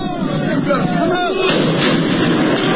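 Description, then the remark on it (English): Belgian police fire tear gas canisters at yellow-vested protesters near the country's government offices and parliament, with sharp, gunshot-like pops amid a dense, roaring wash of crowd noise and shouting, steady and loud throughout. “Belgian police are firing tear gas and water cannons at storm-throwing yellow-vested protesters near the country's government offices and parliament.”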